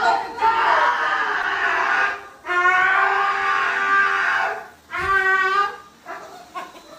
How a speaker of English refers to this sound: It's a dog. It's a dog being groomed for those.